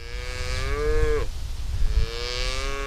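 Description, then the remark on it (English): A cow on grazing land in eastern Colorado moos loudly in a long, droning call that bends down at the end, then a second low moo begins over steady outdoor rumble. No one speaks. “Conventional wisdom would tell you if you're seeing less grass on the land, rein in the cows.”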